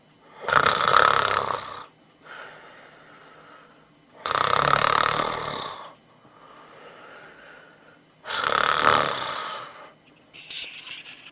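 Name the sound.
man snoring in sleep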